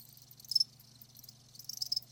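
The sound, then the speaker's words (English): A male cricket chirps, making the sound with a file and scraper on its wings, in two short, high-pitched bursts about a second apart, fairly quiet over a steady low hum, with no voices present. “But let's begin with what we are most familiar with, the chirping sound of a cricket.”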